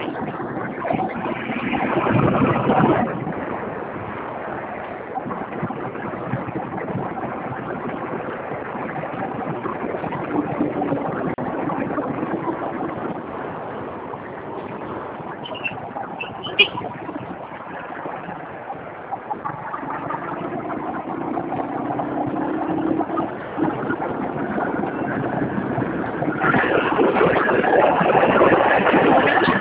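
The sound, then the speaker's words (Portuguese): A motorcycle engine idles steadily with the rider sitting on it for the whole stretch, a continuous rough rumble that swells a bit louder near the start and again at the end, with no voices. “Pode ir vendo aí que eu estou em cima da moto, mas eu estou te ouvindo.”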